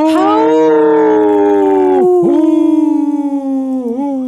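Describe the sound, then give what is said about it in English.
A long, loud wolf howl held steadily, its pitch dipping sharply twice before rising again, with no talking underneath. “Howl! Oh, that was pretty good.”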